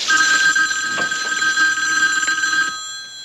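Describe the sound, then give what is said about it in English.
A bathroom telephone rings with a bright, steady, buzzing trill, loud, then cuts off abruptly just before the end. No one speaks. “Wrapped in a towel, she picks up the bathroom phone.”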